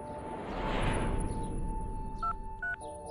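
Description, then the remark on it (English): Two short telephone keypad tones beep in quick succession near the end as a phone call is dialed, each a crisp dual-pitched chirp, heard over a steady background hiss and low rumble. “When Vance calls Piper to check on her, the answering machine picks up instead.”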